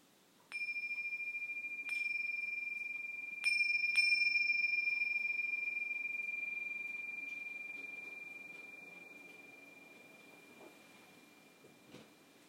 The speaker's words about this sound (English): Oh, those bells, they sound so sweet, they're so pleasant. I should get a set of bells.